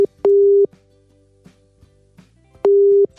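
A telephone ringback tone as an outgoing call is placed to a contest winner: a steady, clear mid-pitched buzz in a double burst, a pause of about two seconds, then another burst beginning, with faint background noise between the rings.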